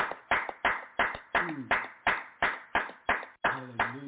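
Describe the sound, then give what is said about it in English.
An audience claps in praise to the Most High during a communion service, about a dozen sharp claps in a steady, even rhythm at roughly two or three per second, with faint voices calling out underneath. “Let's give the Most High another hand clap of praise.”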